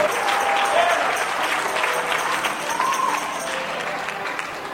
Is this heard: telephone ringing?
no